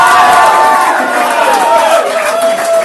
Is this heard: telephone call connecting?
no